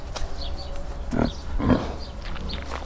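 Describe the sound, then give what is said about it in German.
A teenage pig lying down showing its belly while being petted gives soft, low contented grunts, two main ones spaced about half a second apart, fairly quiet with a bit of background noise and no talking. “Ist das so ein Wohlfühlgeräusch? Ja, das ist jetzt ein Wohlfühlgeräusch.”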